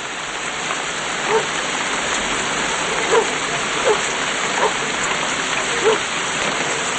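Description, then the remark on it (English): Steady, dense rain falls at night outside a house with a porch beside woods, hissing without a break, with a handful of louder drips or splashes landing every second or so against the constant wash. No voices are heard. “Outside, he stands on the porch and looks through the rain into the woods.”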